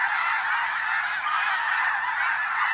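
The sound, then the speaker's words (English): A huge flock of thousands of snow geese pouring from the sky in autumn along a North American flyway, returning from Arctic breeding grounds, honking all at once: a dense, continuous wall of overlapping calls that stays loud and steady throughout, with no voices. “Millions of snow geese are returning from their Arctic breeding grounds, thousands of geese in any one flock.”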